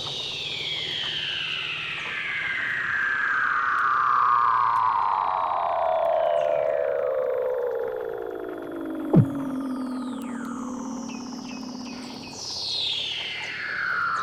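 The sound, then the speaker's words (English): Weddell seal underwater calls at natural speed, not sped up: long, eerie descending whistles gliding from high to low pitch over several seconds, overlapping, with a sharp click midway and another high sweep starting near the end. “I actually did get some sounds of Weddell seals, so we have Weddell seal sounds.”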